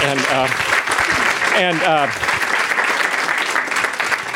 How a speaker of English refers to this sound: It was a wonderful presentation. And unfortunately, we're out of time. Some applause for our delightful speaker.